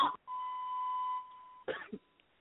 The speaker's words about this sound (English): You all right? Can you hear us? You're coughing. We can hear you coughing.